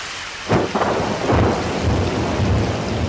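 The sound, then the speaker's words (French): Steady hiss of rain at the sea surface heard from underwater, as a submarine can hear the weather above, with a deep rumble of thunderstorm thunder rolling in after half a second and swelling again midway, continuous and fairly loud, with no voices. “Tout de suite, vous avez deviné que c'était de la pluie, parce que vous reconnaissez ce bruit. Vous avez deviné que c'était de l'orage, parce que vous connaissez ce bruit.”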